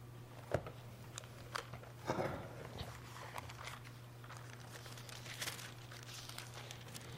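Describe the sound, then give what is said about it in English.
Soft, scattered rustling and crinkling of many Bible pages being turned by an audience looking up Psalm 69, verse 21, with brief papery flutters over a low steady hum, no one speaking. “Love to hear those pages rustling.”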